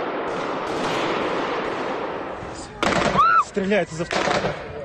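Eyewitness footage of the attack at Crocus City Hall concert venue in Krasnogorsk, west of Moscow, Russia: harsh, sustained machine gun fire from gunmen shooting at the crowd, followed by loud broken bursts, with high-pitched screams and shouting voices rising over the gunfire near the end.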